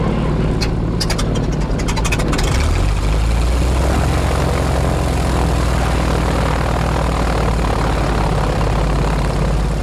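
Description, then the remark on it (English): A propeller airplane engine runs loud at Air Combat USA before a combat flight mission, a steady droning roar with a deep rumbling hum that holds constant throughout, with brief clicking bursts near the start. “and we are getting ready to go do a combat flight mission. So we're getting ready to climb in the plane”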